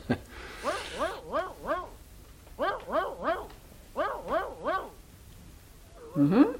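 A dog barks in three quick bursts of three or four sharp, clear yaps each, with short pauses between volleys, as someone's footsteps approach; no one talking.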